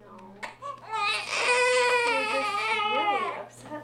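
A newborn baby cries loudly and continuously, a sustained high-pitched wail with wavering harmonics lasting a few seconds, close to the microphone, with a faint steady hum underneath.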